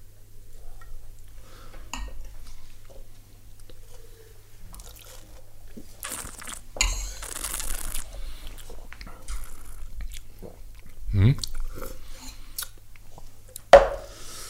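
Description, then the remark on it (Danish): Mouth sounds of someone at a dining table sipping red wine and swishing it around, with a burst of slurping and wet swirling in the middle, then scattered smaller sips over a low steady hum. “Nu sidder vi her med spisbordet og skal smage på den her.”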